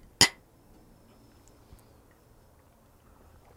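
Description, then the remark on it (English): Two glasses of Paddy's Bee Sting, an Irish honey-infused Irish whiskey, clink together once in a toast, a bright ringing chink near the start, followed by near-quiet with a faint soft knock a moment later. “And today we're drinking a Paddy's Bee Sting whiskey. And what it is it's Irish honey infused Irish whiskey. It's delicious. So cheers.”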